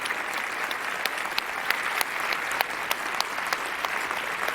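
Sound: audience applause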